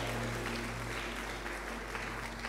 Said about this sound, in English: Clap your hands and celebrate Jesus.